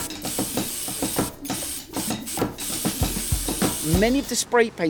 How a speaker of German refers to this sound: Er packt Schablonen und Klebeband aus. Eine Schablone an die Wand kleben, das allein ist noch nicht illegal. Aber das, was er dann macht, schon. Er sprayt über die Schablone. Erstmal mit Schwarz.